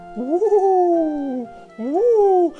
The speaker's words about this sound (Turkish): Aniden bir baykuş dikilerek uğulduyor.